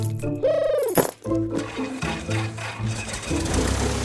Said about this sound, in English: here are the keys. Catch.